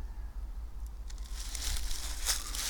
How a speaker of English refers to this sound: We got birds in the leaves over here kicking leaves around.